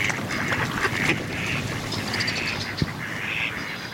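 Ducks on the water quack in a loose series of nasal calls over a steady outdoor background hiss, with one brief sharp tap partway through. No one speaks.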